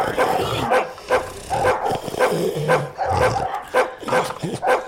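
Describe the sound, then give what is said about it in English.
Dogs bark loudly and repeatedly in a room, a busy run of overlapping barks and yips filling the whole stretch with barely a pause between them. “With roses all over the floor, and these dogs are eating.”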